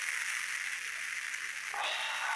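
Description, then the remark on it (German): A top-fermented full beer (Vollbier) fizzing and crackling: a steady, dense hiss of tiny bubbles popping, with a brighter, stronger burst of fizz partway through. No one speaks. “Ja, meins knistert auch ein bisschen.”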